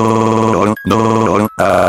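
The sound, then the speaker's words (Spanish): A radio announcer's telephone rings loudly, an electronic warbling tone repeating in bursts with two short breaks between them. No voices are heard. “Después un jueves normal, el locutor levanta el teléfono y responde.”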